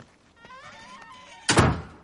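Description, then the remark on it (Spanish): A house's front door swings shut as a man enters his home, with a single solid thud near the end, preceded by a faint creak of hinges as it moves; fairly loud, with no voices. “asiente y entra en su casa.”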